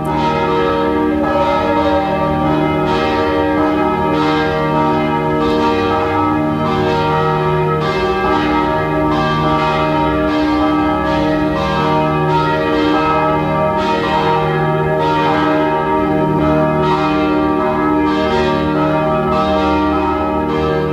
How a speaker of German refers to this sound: Es ist 12 Uhr. Sie hören die Glocken der Pfarrkirche Penzing im 14. Wiener Gemeindebezirk.